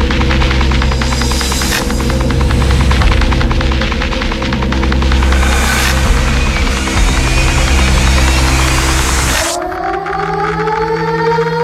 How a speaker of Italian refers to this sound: Questo suono è chiamato woodpecker. Sembra il rumore di un picchio.